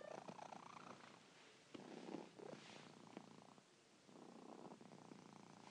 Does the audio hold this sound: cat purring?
yes